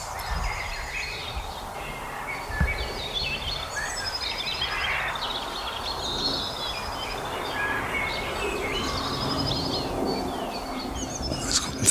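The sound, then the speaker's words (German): Many birds chirp and call all around at once while darting into bushes, a busy overlapping chorus of short tweets and whistles, continuing steadily for the whole stretch with no one speaking. “Und während die ganze Zeit aber um mich rum Vögel hier in die Büsche reinschießen.”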